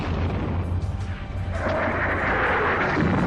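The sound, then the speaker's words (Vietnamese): Artillery fire rumbles steadily, the departure boom of guns firing: a continuous low, heavy roar with a broad wash of noise and no talking, sustained at a fairly even loudness throughout. “Đắng môi, khô miệng vì căng thẳng mỗi khi nghe tiếng đề pa của pháo.”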